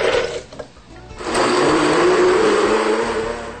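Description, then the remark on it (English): A blender whirs up to full speed after a brief start, its motor roaring loudly and steadily as it purees cashews with about 3 cups of water into cashew cream, with no talking. “because it'll puree better and they won't be gritty at all.”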